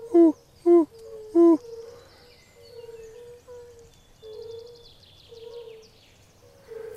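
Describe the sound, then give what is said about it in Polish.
Fire-bellied toads calling: three loud, low, mellow hoots open, then a chorus of softer repeated tonal notes carries on steadily, with faint high bird chirps in the background. “Natomiast mamy kumaka. To jego charakterystyczne takie...”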